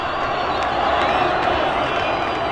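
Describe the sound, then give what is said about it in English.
A vast crowd of protesters in Cairo's Tahrir (Liberation) Square, Egypt, roars continuously in approval as news of Mubarak's downfall breaks, a dense wall of cheering and shouting voices with scattered whistles rising above it, loud and sustained throughout. “The huge crowd of protesters in Cairo's Tahrir or Liberation Square let out a roar of approval when the news broke.”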